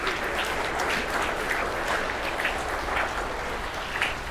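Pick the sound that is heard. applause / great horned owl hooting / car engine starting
applause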